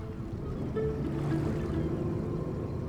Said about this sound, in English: A launch. It's a small type of boat.